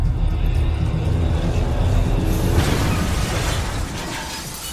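A loud truck crash: heavy low rumbling and grinding, then a sharp burst of shattering noise midway, with the rumble fading away toward the end.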